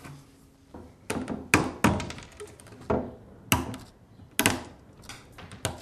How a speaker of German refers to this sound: Oh, jetzt ist der Hammer aus der Hand gefallen. Vorsicht nur, dass er nicht auf den Fuß fällt.